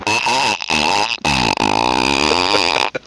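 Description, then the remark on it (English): A voice imitates a car engine cranking and starting, with a buzzy, sputtering vocal rumble that stutters in short bursts before revving into a sustained, wavering drone. “Wait, let me start my car.”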